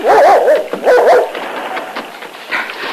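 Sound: dog barking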